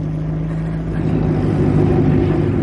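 A car engine rumbles steadily as the vehicle pulls to a stop, a low droning hum holding then easing off toward the end, with no voices.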